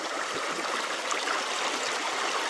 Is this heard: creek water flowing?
yes